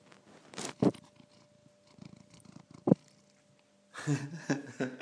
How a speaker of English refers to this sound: See if you can hear him purring.